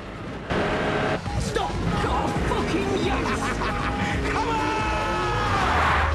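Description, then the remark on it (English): Cars rev up loudly as they accelerate toward each other, one riding up onto the curb, their pitch climbing steadily over several seconds amid a dense, continuous wash of road and motor noise, with some indistinct voices mixed in. “As they build up speed, Kane rides up on the curb.”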